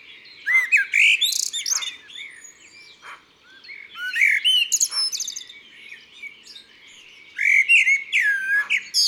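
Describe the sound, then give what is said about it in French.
A common blackbird perched on a house roof in a quiet neighbourhood with trees and gardens sings at dawn on 1 May, answering other blackbirds: clear, fluting phrases in three bursts, each ending in a softer, very high-pitched flourish, prominent with no talking. “Le merle est perché sur le toit d'une maison, bien en vue, et il répond à d'autres merles du quartier.”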